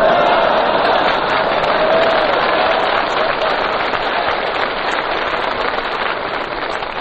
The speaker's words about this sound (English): What, have you got a relative out there applauding or something?